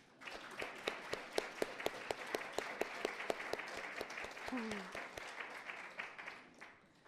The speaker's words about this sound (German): Und heute ist ja auch Muttertag. Und ich finde, die Mütter sollten jetzt einen Applaus bekommen.